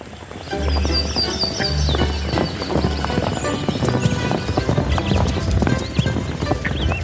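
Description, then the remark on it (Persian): Horses' hooves pound in a rapid, continuous clip-clop rhythm at a royal horse race held outside the city before Naser al-Din Shah, with high whinnying calls rising above the busy, loud galloping throughout. “اما توصیف مراسم اسب دوانی از زبان عبدالله مصطفی در حضور ناصرالدین شاه که به قول دخترش تاج السلطنه از تفریحات محبوب پدرش بود.”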